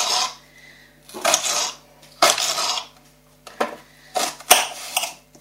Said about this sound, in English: And these are rather tough ones, unfortunately. But we shall get there. So, chopping the onion into very small pieces.